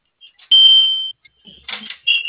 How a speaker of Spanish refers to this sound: Sí, escuché el pitido, pero dijiste que están bloqueando. Sí, bueno, sí la bloquean ustedes de allá, la bloquean. Ok, pero ahorita te mandé una apertura, no sé por qué sonó así.